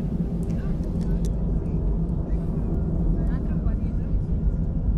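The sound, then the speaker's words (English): A steady, deep airplane engine rumble fills the cabin without pause, a dense low drone holding an even level throughout, with faint indistinct voices murmuring in the background. “Actually, I find sitting on an airplane with the rumble of the engine to be meditative as well.”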